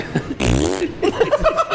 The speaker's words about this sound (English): Oh, my God, that wasn't a piano. That was a fart soundboard.